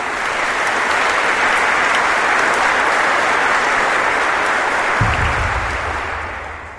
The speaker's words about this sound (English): Small town, big heart. If you're from Galesburg, applaud that. Thank you.